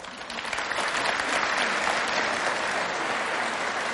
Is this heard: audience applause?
yes